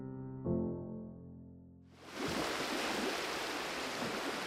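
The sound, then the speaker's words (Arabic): A low, steady tonal hum fades out and, after about two seconds, gives way to a loud, continuous rush of sea water splashing and churning around a boat out at sea on a boat trip. No one speaks. “الرحلة ابتدت وأخيراً وصلنا البحر وطلعنا المركب”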